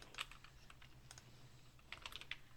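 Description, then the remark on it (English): Keys clatter on a computer keyboard in quick, irregular bursts, with a pause in the middle and a cluster of sharp clicks near the end, fairly quiet over a low hum, as someone types a message to another person. “I'm typing to Vera.”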